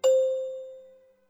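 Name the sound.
chime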